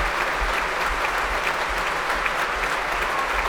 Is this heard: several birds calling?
no